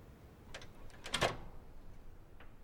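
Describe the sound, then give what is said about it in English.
A door is opened: a few quiet mechanical clicks and a brief rattle of the latch and handle, with one louder click in the middle and a faint tick near the end. “Here, let me get the door.”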